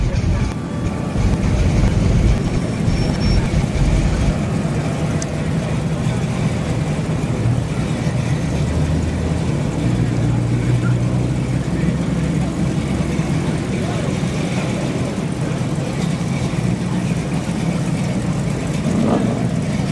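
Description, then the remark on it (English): Several car engines rumble and idle steadily outdoors at a car show in Morro Bay, a continuous low droning hum with faint crowd murmur in the background, moderately loud throughout. “All right, enjoy the car show.”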